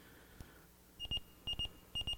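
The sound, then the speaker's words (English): Sharp, high-pitched electronic beeps from an alarm clock come in three quick bursts of three, repeating in a steady urgent pattern, clear, with no one talking. “I'll get up a little faster than for the alarm clock. You know, it gets me up even faster? This.”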